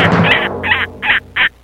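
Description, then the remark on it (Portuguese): Four loud, raspy bird calls in quick succession, harsh fowl-like squawks repeating at a steady rhythm, played as an intro effect for International Bird Day, with no talking. “Hoje é o Dia Internacional das Aves.”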